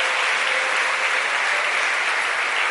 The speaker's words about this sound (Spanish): Démosle un aplauso fuerte a ese Señor.